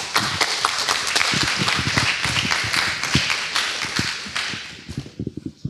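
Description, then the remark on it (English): A small audience claps sparsely for a few seconds after a lightning talk, a dense patter of hand claps that thins out and fades toward the end, with no one speaking. “That was a feeble clap.”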